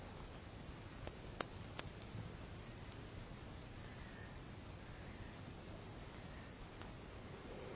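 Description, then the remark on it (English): A quiet, steady hiss of wind stirring through tree leaves, a continuous soft rustle with a few faint ticks early on, even throughout with no voices. “And when the wind moves the air element through the tree, there's a slightly different noise of rustling leaves.”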